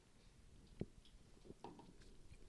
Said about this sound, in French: Je vais juste prendre une petite gorgée.